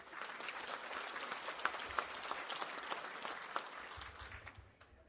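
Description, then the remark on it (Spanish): Steady applause from a crowd for municipal president Alejandro Contreras: a dense wash of many hands clapping at once for about five seconds, with a few sharper claps standing out before it begins to thin at the end. “Agradecerle también al presidente municipal constitucional, al licenciado Alejandro Contreras, su presencia en este lugar, para quien pido un fuerte y caluroso aplauso.”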